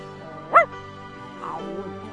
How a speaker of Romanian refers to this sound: Mormăi cățelul cu nepăsare. Se vedea că de acum nu-i mai pasă de nimica.